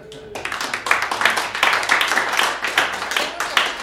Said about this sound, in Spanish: I think merece un aplauso. No?